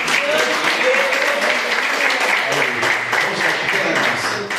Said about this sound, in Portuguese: Amém, irmãos? E as palmas que adorem a Jesus.